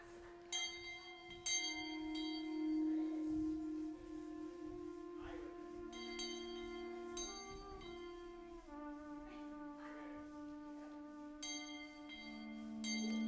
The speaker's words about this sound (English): The train bells are coming.